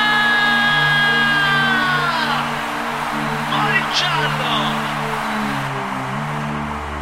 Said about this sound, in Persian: اجازه بدید میخوام ببینم که امشب بهتون خوش گذشته یا نه. اونایی که بهشون خوش گذشته یه جیغه بلند. اینجوری نشده. اونایی که بهشون خیلی خوش گذشته یه جیغه بلند.